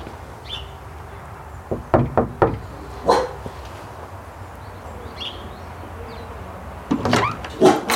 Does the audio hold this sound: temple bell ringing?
no